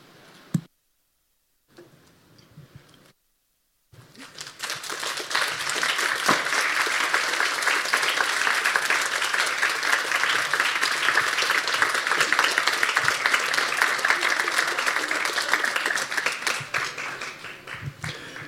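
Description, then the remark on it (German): Sustained audience applause from a crowd, a dense rattle of many hands clapping that starts after a few brief silent gaps and stays loud and steady for about fifteen seconds. “Und vielleicht später nochmal ein bisschen Applaus, weil ihr schwitzt hier unten schon, aber hier oben fühlt sich das noch viel schlimmer an.”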